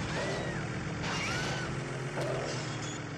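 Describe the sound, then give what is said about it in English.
A dense, continuous roar of car engines from a car video game released for the personal computer in 1997, with whining pitch sweeps and layered mechanical rumble filling the whole three seconds, loud and busy with no talking. “What gave it away was the motor was the motor sounds of people going.”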